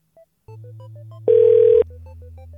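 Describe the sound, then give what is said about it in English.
Phone-line sounds from an outgoing call to an insurance company: a steady low tone with a string of quick beeps, then one loud half-second ring burst before the quieter tone resumes. No one speaks. “I'll keep trying to call these insurance companies until I reach them.”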